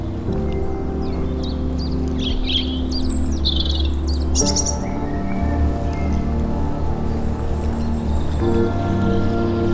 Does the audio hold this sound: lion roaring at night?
no